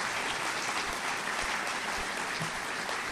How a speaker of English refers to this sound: Please, one more round of applause for all of the sponsors' support.